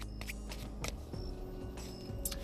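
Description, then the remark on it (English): A deck of cards being shuffled during a card reading to draw a healing card: several quick, crisp papery riffles and flutters in short bursts, fairly soft, with a low steady hum underneath and no voices. “Last shuffling.”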